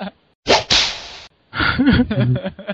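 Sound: whip cracking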